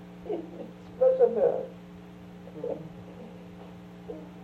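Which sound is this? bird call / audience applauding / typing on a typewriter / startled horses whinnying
bird call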